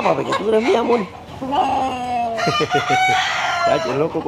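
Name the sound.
rooster crowing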